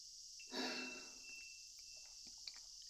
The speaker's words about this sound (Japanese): 縁側で熱い日差しとセミの声、風鈴のきれいな音色を脇に食べるかき氷、都会の中ではございますが、なかなかおつなものでしたね。